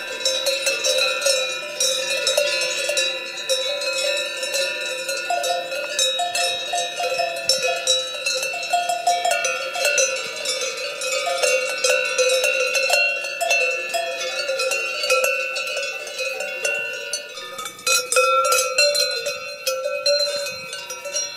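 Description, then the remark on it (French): Many cowbells, made in Valais, clang together without pause, their bright metallic tones overlapping in a dense, jangling chorus that stays fairly steady in loudness throughout, with no voices. “Je m'étais fait faire cette marque en Valais pour faire ces sonnettes.”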